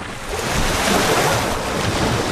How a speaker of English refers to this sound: Water sprays up as the hippos thrash about in an effort to find a space to themselves.